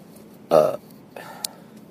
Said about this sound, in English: Why is it that I always burp only when I'm recording? Only when I'm recording this podcast do I burp like this, guys.